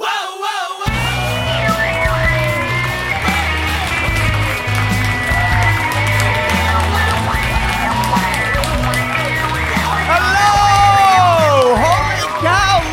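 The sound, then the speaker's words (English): A large live audience at the Risk! storytelling show cheers and claps loudly and continuously, with whoops and shouts rising above the steady roar of applause and a low rumble underneath. “What a beautiful audience! Big crowd here tonight.”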